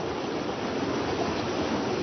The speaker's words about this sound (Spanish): El sonido del río Caquetá no ha cambiado mucho desde que Janet se fue de aquí hace casi 10 años.